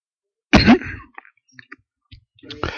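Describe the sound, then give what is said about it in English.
A harsh cough bursts out from a speaker in the middle of a sermon, followed by a few small throat noises and a second rough cough and throat clearing near the end; no talking. “Does anybody have a cough drop?”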